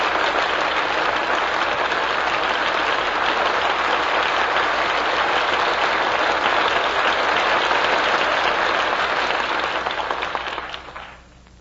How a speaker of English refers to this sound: That well-earned applause deserves a curtain call.